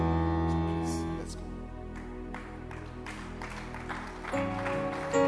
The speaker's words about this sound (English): Clap your hands. Clap your hands. And let's welcome Reverend George. Keep clapping your hands. Let's welcome Reverend George to lead us to the Lord's table. Clap your hands for him.